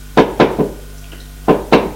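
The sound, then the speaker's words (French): Three quick knocks on a door, a short pause, then two more firm knocks, as a man knocks rather than using his key and gets no answer. The raps are sharp and fairly loud against a quiet background, with no voices. “Alors, il frappe à la porte.”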